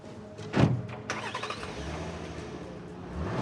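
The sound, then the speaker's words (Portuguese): The engine of a black Audi cranks and catches after a sharp thud, then settles into a steady mid-pitched running hum that rises slightly as the car pulls away, moderately loud. “Eles entram em um Audi preto.”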